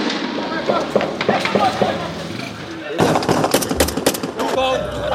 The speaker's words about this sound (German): Und so klingt Port-au-Prince. Wir haben Schüsse gehört, das gehört zum Alltag in der Hauptstadt von Haiti.